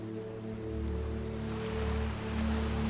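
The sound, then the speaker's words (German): Soft ocean waves break on a beach at sunset, washing in and receding in gentle swells, quiet and steady, layered under a sustained low tonal drone, with no voices. “Und ich lasse dich nun einmal kurz alleine am Strand beim wunderschönen Sonnenuntergang und wir lauschen den Wellen und zählen dabei.”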